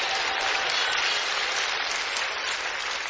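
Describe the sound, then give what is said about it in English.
An audience at a children's service claps steadily throughout, a dense, even wash of many hands with no voices, holding at a consistent loudness for a few seconds. “If y'all all clap, nobody know I'm talking about you.”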